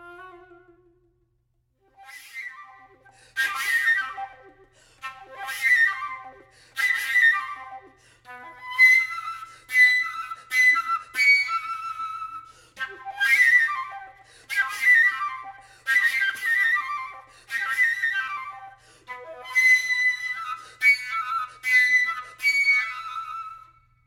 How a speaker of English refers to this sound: are called extended techniques, not the usual sounds that you expect to hear from the flute. And instead of being a melodic phrase of pretty notes with all, you know, beautiful tone, it's a phrase created with these interesting tone colors instead.